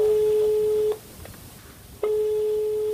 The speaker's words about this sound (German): ruft an in Kiew, wählt erstmals die Telefonnummer